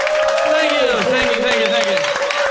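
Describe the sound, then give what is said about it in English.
An audience at a live broadcast claps steadily and cheers to greet the guest band, with dense overlapping hand claps under a loud wash of whooping voices and one sustained high shout, lasting a few seconds without a break. “Everybody clap your hands and say hello to our buddies.”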